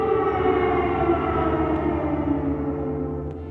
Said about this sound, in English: We spent the following week in Kyiv. Like all the citizens, we got used to the air raid sirens.